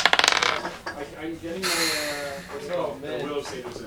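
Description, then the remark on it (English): A quick clatter of two six-sided dice rolled for damage in a tabletop role-playing game, tumbling across a table in a burst of rapid clicks that settles within half a second, followed by people talking. “What kind of weapon is your character using that you roll 2 dice?”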